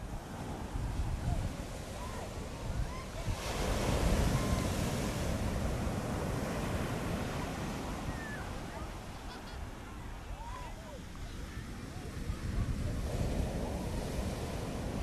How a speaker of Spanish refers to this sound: Se oyen voces, pero se oye también sobre todo esa cadencia de las olas llegando y rompiendo contra la arena.